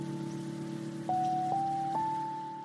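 A slow, mellow lo-fi beat with jazzy sampled qualities, sustained tones and a few soft plucked notes, layered over a steady hiss and faint crackle like rain or an undusted vinyl record throughout. No vocals.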